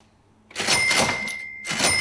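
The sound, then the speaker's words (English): The till at the Monarch Cake Shop on Ackland Street, Melbourne, rings open: a loud clatter of mechanical noise with a sustained bright bell tone, a brief dip, then a second burst of clunking. No voices. “The till is ringing at the iconic Monarch Cake Shop in Melbourne's Ackland Street, and as it has been for the past 90 years, business is brisk.”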